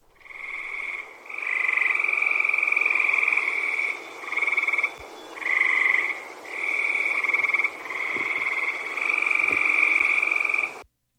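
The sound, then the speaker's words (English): A dense chorus of tree frogs calling together in sustained, overlapping trills that swell and dip in loudness over several seconds, loud and continuous with no voices. “But let's listen to a chorus of them together. Or, sorry, a chorus of just the tree frogs together, not adding toads.”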